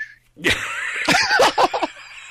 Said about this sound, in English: If you whistle like that, it sounds like you got thrush.